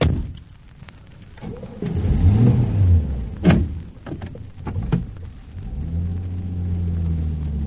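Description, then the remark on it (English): A car door clunks, then an engine cranks and catches, idling with a low rumble before revving up and settling into a steady, rising drone as the car pulls away. “At last, the car.”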